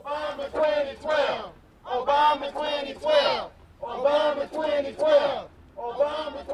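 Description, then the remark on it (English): A small crowd of demonstrators holding Obama 2012 campaign signs chants together on the sidewalk outside talk show host Tavis Smiley's headquarters, denouncing Smiley and Cornel West, shouting the same short phrase over and over in a steady rhythm, the voices loud with brief pauses between repetitions. “A small crowd holding Obama 2012 campaign signs stood on the sidewalk outside talk show host Tavis Smiley's headquarters today.”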